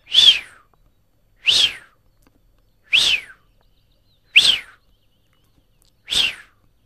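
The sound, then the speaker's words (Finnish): Five clear whistling calls from small ducks, each a brief descending note, spaced at a steady, unhurried pace and heard alone, distinct. “Olin Helsingin Lauttasaaressa kasinon rannan nurmikoilla syöttämässä syyskuussa laiduntavia sinisorsia, kunnes jostakin kuului epätodellisen kuuloisia vihellyksiä.”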